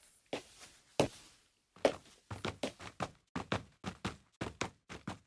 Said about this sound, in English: It's a little akin to like a sample library of a piano or a drum set or something like that, except that instead of like drum hits or individual notes on the piano, it's all footsteps of various types of shoe on different surfaces.